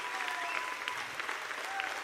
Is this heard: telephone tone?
no